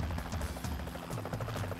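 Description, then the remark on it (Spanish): A helicopter, whose pilot spots four men near the Great Dover swamp, chops steadily overhead, a rapid, rhythmic low thudding that stays fairly loud and constant throughout, with no voices. “Entonces escucharon el helicóptero.”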